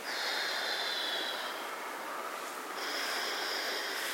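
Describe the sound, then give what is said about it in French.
Two deep, forceful breaths taken during a relaxation exercise to raise the breathing tone, each a long airy rush lasting over a second, separated by a brief pause. Fairly loud, with no talking. “D'abord, respirez fort deux fois par exemple.”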